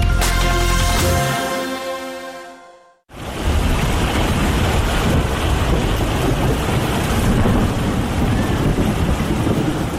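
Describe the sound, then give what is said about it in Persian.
A sustained tonal chord fades out, then after a brief silent gap a loud, steady downpour of heavy rain begins, with low rumbling thunder underneath and no voices. “تغییرات اقلیمی در جهان، بارانهای شدید و سیلابهای غیر مترقبه را در سراسر جهان به شمول افغانستان در قبال داشته و آزمونهای موجود در این کشور را بیشتر کرده است.”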